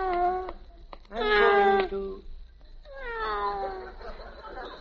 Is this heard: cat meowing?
yes